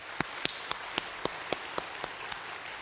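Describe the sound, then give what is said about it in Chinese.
Audience applause for Jesus at the preacher's call during a church sermon, in a steady, even rhythm: about ten sharp, crisp claps spaced evenly over a constant hissy background, with no voices. “我一起给掌声耶稣好吗？”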